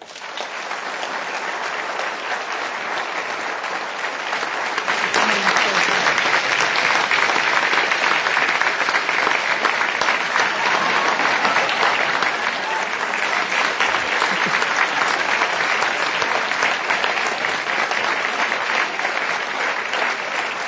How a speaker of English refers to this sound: You don't want the applause to stop before you sit down. When you get an Oscar, you don't want the applause to die down before you get on stage. It's the rule. Well, it certainly hasn't died down for you.